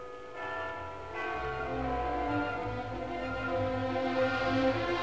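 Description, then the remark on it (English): A clock chimes twelve o'clock with rich, resonant bell tones that overlap and ring on steadily, their sustained harmonics humming at a moderate, even loudness with no voices. “He ate his lunch and looked at the clock, which rang out 12 o'clock.”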